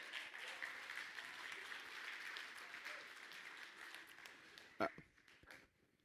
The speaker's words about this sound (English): Everybody stands to your feet. Give the Lord a hand clap. Give the Lord a hand clap.